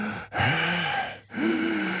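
A person imitates heavy breathing: two long, loud, raspy breaths, each with a faint groaning voice in it, separated by a brief pause.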